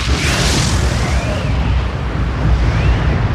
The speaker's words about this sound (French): Donc le problème, c'est que le gaz n'avait aucun moyen de sortir de la mine d'État. Et donc, il y a eu une explosion.